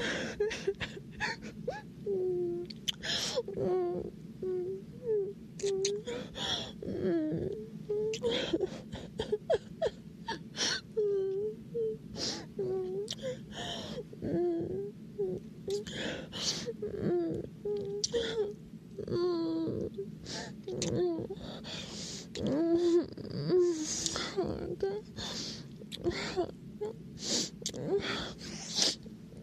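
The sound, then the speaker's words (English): Repeated short, breathy sniffles recur throughout, mixed with soft whimpering and moaning vocal sounds that rise and fall in pitch, moderately loud and steady for the whole stretch. “Sorry, it was sniffles.”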